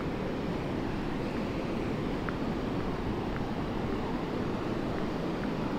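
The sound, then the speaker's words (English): A steady, heavy roar of strong wind buffeting the microphone at a beach, with ocean surf rumbling underneath, continuous and loud throughout, with no voices. “It's really, really windy. I can hardly describe it. I can hardly breathe because the wind is so heavy.”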